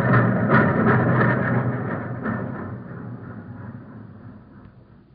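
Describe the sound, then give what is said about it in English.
A fast passenger train roars by with a heavy, rumbling clatter and rhythmic thumps, loud at first, then gradually fading as it moves away. No one speaks. “that passenger train's coming like a rocket”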